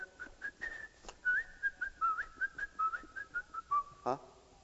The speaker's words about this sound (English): Well, didn't you hear that? The whistle while you work.